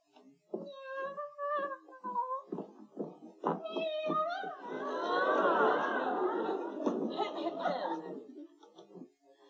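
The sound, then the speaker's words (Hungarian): A woman imitates a cat with a string of drawn-out, wavering meows, calling her sweetheart, voiced fairly loud, followed by a burst of overlapping chattering vocal sounds. “nyávogva hívogatja kedvesét.”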